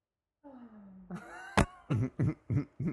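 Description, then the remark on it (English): A voice imitates a hacking cough: a strained, wheezy vocal lead-in followed by one sharp explosive burst and then four rapid, harsh coughs in a rhythmic series, fairly loud. “Oh, and he was hacking up a lung, and he had his inhaler. Mm-hmm. And he was coughing. Like that.”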